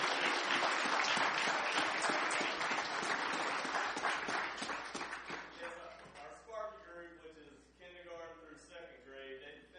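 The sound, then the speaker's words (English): A church audience breaks into loud, sustained applause for the children and leaders in Awana t-shirts who took part in the Awana Games. The applause tapers off after about six seconds, giving way to a voice speaking over the last few scattered claps. “Let's give them a round of applause for being involved there.”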